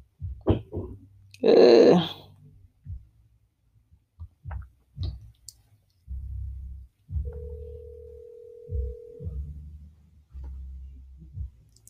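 phone call ringing out

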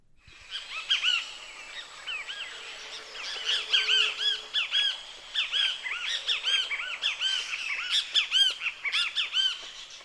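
great kiskadee calls

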